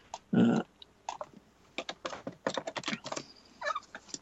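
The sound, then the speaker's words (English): Quick, irregular clacks of someone typing on a computer keyboard tap out in bursts, fairly crisp, with a brief louder, lower sound near the start and no one speaking. “is actually at his keyboard typing away.”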